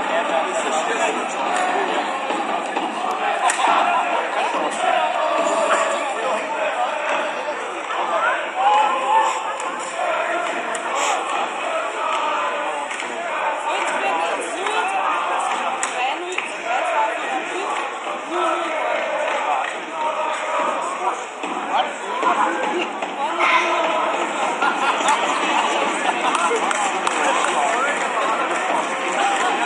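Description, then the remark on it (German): Cardboard clappers slap out sharp, irregular smacks over a constant roar of stadium crowd noise, with a loud, dense wash of cheering and chatter underneath throughout. “Ein Mann mit Klatschpappe, den habt ihr sehr laut wahrgenommen.”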